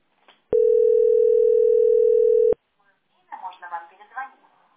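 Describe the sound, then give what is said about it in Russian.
A single loud, steady telephone ringback tone hums for about two seconds and stops as the call goes unanswered, followed by a short pause and then a person speaking. “2 часа сижу, и никто трубку не берет.”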